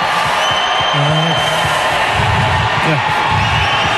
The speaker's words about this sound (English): You can hear the response from the crowd there, obviously. So they were giving him a bit of a tribute there just in case that was the last time they're going to see him.